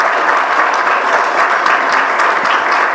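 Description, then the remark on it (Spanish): Loud, sustained applause from an audience as a tribute to the late don Próspero Nieva, a dense steady wash of many hands clapping at once with no pauses and no talking over it. “Por eso hoy, la verdad que venir con Alejandro Nieva, un representante del radicalismo de siempre, y como bien decía la Alejandra Valla también, un homenaje a don Próspero Nieva, que nos dejó hace muy poquito y por el cual quiero este fuerte aplauso.”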